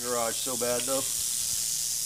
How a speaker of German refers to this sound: Das ist unsere rote Diamantklapperschlange, eine der 2 häufigsten Arten hier. Sie ist ziemlich sauer, will unbedingt in diese Garage, aber daraus wird nichts.